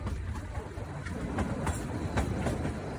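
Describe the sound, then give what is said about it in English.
A heavy train rumbles steadily through a tunnel on a working train track, its wheels clacking in a loose rhythm over a deep, continuous roar that fills the space, with no voices heard. “Any moment a train could come lumbering through and you would have to leap out of its path and into one of the cavities lining the walls of the tunnel.”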